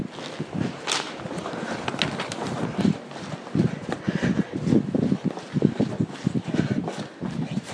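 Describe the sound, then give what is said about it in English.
Steady footsteps stride along a hard floor in a third-floor corridor, a quick regular rhythm of heel strikes with a slight echo and faint background hiss, no voices. “Following the corridor.”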